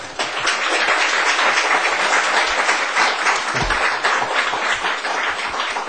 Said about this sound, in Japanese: では、拍手を持って。